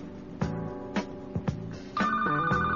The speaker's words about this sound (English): I thought the phone was ringing. Madhouse Radio, you're on the air.